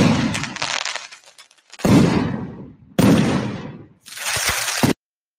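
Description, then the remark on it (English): Fireworks going off in four loud booms spaced about a second apart, each bursting sharply and trailing into a crackling, fizzing decay before the next one hits. “Here's one of some fireworks being shot off.”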